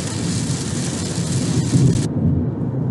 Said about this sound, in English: I'm not sure if you can hear that, but it just started pouring down rain here as I'm driving.